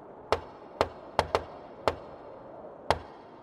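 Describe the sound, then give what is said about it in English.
Six sharp knocks on a door in a jaunty, syncopated pattern, with a quick double rap in the middle. The knocks are fairly loud, and no one speaks. “Russ, if you could dub in a real cool guy knock for Amy at this point”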